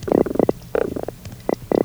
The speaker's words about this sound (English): Fish noises sound like signals, Morse codes.